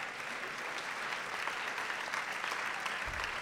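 A debate audience applauds steadily, a dense patter of many hands clapping at an even level throughout, with a brief low rumble near the end.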